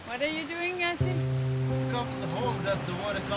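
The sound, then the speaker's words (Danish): Steady sea water washes around a small boat carrying five people at night on the dark sea, a continuous noisy surge, while voices speak over it and a low, even drone hums underneath from about a second in. “Vi sidder nu 5 mennesker i en båd og spejder ud over det mørke hav.”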